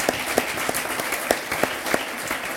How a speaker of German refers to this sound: Können wir den Applaus nochmal haben? Alle, die queer sind, Applaus! Der war gut.